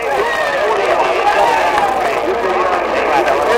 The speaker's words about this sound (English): They're coming up. They're hauling. The men who are pulling are off to the side, and they're pulling down on the rope that goes up. And here he comes. Here he is. Listen to the cheer.